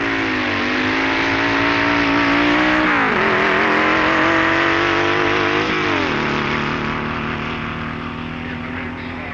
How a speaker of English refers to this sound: Doug Church from Bellflower, California, whose little two-liter Porsche engine dragster was thought by many to be the best engineered car in the festival.